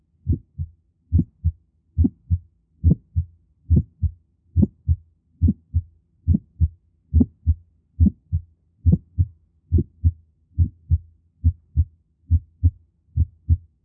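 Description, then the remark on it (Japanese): Heart sounds with a click and a short, harsh systolic murmur, first and second heart sounds as steady paired low thumps repeating about every 0.8 seconds, each beat sharp and brief with a short extra snap, heard alone with no talking. “これはクリック音が聞こえています。”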